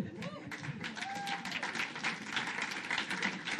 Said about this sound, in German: Wäre schon wieder ein Applaus fällig. Aber ich überlasse es euch.